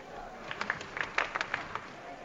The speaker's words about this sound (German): hier bekommt der Papst noch einmal Applaus. Die Menschen, die hier geduldig und fromm und lang zusammengestanden sind oder gesessen waren, müssen sich ein bisschen befreien durch diesen Applaus, jetzt noch vor dem Ite Missa ist.